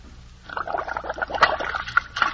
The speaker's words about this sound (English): What's that splash? Well, that's to tell people that before Bird's Eye vegetables are quick frozen, They're all cleaned and prepared, and all you have to do is just open the package and pop the contents into boiling water.